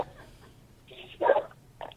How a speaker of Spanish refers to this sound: No se puede escuchar, se oye un perro ahí. Se oye un perro, no podemos escuchar.